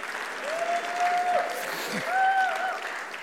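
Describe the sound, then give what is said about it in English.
A crowd claps hands in a steady, dense wash of applause that sustains throughout, with a few cheering or whooping voices rising above the clapping, clapping in faith and expectation of joy. “Clap your hands right now if you believe it.”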